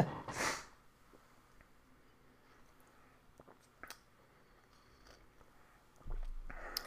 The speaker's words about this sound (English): There we go. Gonna take another sip of tea here. I'm losing it.